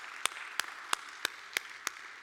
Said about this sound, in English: And we ought to give the Lord a hand clap of praise in the house of God.